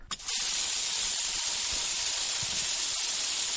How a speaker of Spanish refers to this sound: Pues nada, con el ruido del agua de la fuente de Collado Mediano nos quedamos.